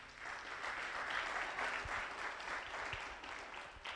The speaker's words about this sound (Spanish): ¿Por qué no le damos un aplauso a ese Dios?